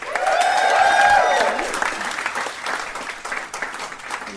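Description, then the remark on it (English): An audience at the European Beer Cafe claps and cheers, a dense burst of applause with a few high whoops at the start, then the clapping thins and fades over about four seconds. “Now, give us a round of applause if you've ever heard the podcast before.”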